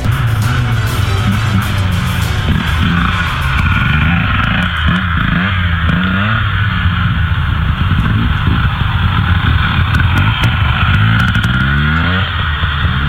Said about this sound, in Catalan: Una, dues, tres, quatre i fins a 5 motos passen en un vídeo que el grup de Natura Externa ha fet públic per denunciar el pas d'aquests vehicles en el tram alt del Ridaura. Això és a la zona de l'Ardenya.